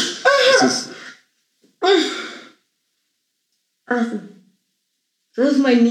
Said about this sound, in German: Das ist mein Niesen. Ja. Ich kann nichts dagegen machen. Das klang Englisch. This is my Niesen. This is my Niesen. Ich kann nichts dagegen machen, aber viele lachen drüber.